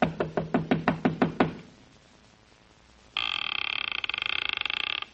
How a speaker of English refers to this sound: The town seemed deserted, but I finally took a chance and knocked on a door.